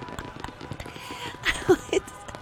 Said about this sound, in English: Look at the fireworks. Oh. Oh, and I can hear everyone applauding and car horns sounding and the cheering and the final music.